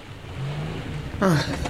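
A car engine hums low, then swells into a louder rush with a falling pitch as the car approaches, all within a couple of seconds.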